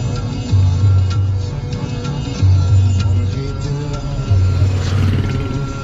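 Heavy, intense traffic rumbles steadily, heard from a car, with sustained low blaring car horns honking about every two seconds. Music is turned up in the car to drown out the noise.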